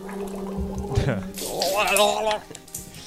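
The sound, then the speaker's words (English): Wet gargling that bubbles and warbles for a couple of seconds, ending in a quick spit and a few trailing drips of water. “I like the spit at the end. The spit completely makes it.”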